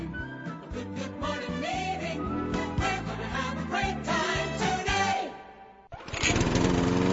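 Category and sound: machine, lawn mower engine running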